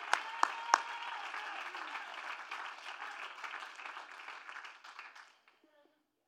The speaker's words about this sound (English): Give the Lord a mighty hand clap all over this place. Hallelujah.